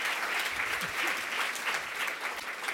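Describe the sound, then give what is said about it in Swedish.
Steady audience applause for the event's moderators fills the whole stretch, a dense wash of many hands clapping at an even, sustained level with no pauses or swells. “En stor applåd till dem tycker jag.”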